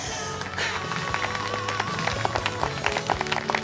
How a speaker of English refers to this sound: Stop clapping, you idiots! We gotta move!